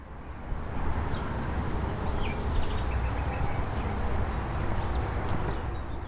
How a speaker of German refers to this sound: Also wenn wir uns jetzt die Autobahn nochmal anhören und dann nach einem Cut Meeresrauschen kommt, dann kann man vielleicht ganz schön den Unterschied raushören. Es folgt das Tonbeispiel Meeresrauschen, Brandung. Und nun Autobahn.